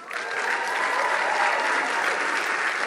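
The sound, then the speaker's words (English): A crowd applauds steadily as West Kootenay MLA Katrina Conroy is officially appointed Minister of Finance on Wednesday, a dense wash of clapping with cheering mixed in, holding at a loud, even level for the full few seconds without anyone speaking. “Here in front of a cheering crowd on Wednesday, West Kootenay MLA Katrina Conroy was officially appointed Minister of Finance”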